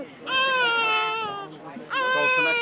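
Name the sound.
newborn baby crying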